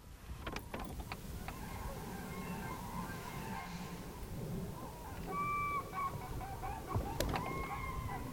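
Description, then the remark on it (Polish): A flock of cranes calls from overhead, a few bugling notes sounding across the sky amid outdoor background noise and occasional clicks. “Mamy tam klucz jakiś leci ptaków. Żurawie chyba.”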